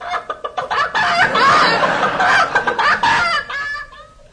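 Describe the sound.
Chickens cluck: a quick run of short clucks builds into a loud, agitated burst of squawking, then tapers back into scattered clucks.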